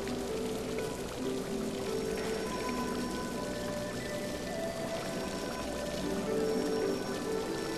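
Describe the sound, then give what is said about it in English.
Water pours and splashes steadily in a cascading waterfall at the foot of tiled steps, a dense, even rush that holds at a constant level for the whole stretch, with soft sustained tones lingering underneath. “You walk to the end of the hall, where tiled steps lead down into a waterfall of cascading water.”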